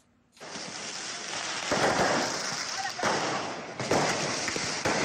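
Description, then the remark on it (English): Firecrackers shot at police by groups of young men during street clashes outside Cairo, Egypt, near the Giza pyramids, boom and crackle over a dense, continuous roar of outdoor noise, with several louder bursts a second or so apart and indistinct voices mixed into the din. “Amateur video showed small groups of young men throwing stones and shooting firecrackers at police outside Cairo near the Grand Pyramids of Giza.”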